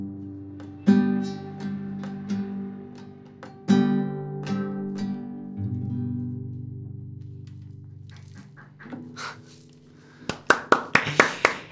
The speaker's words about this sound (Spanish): Aplausos que quedan un poco sordos porque somos pocos hoy en el estudio